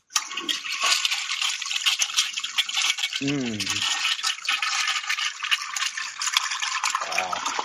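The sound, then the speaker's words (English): A toilet flushes in a long, steady hiss of rushing water that holds for several seconds, broken briefly midway by a low gurgling tone, then keeps on churning to the end. “considers it a toilet flush”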